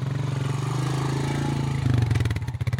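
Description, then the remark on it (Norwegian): Motorcycle engines rumble loudly in a street near a city centre, a steady throaty drone that jumps in pitch partway through as one revs up and moves past. “Nære sentrumsområder så ser man ofte mange motorsykkelgjenger I disse gatene.”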